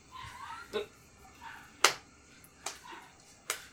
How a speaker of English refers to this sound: There's a golf clap. they clap me in.